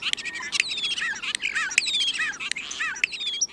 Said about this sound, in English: Consider the lowly starling.